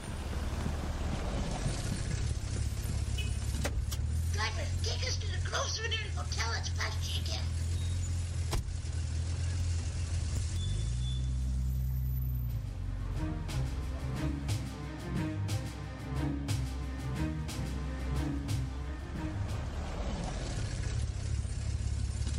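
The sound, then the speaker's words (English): A taxi cab's engine rumbles steadily, idling and then pulling away as the motor hums on, with faint muffled voices underneath for part of the time. “Taxi! Taxi! Not another cab driver.”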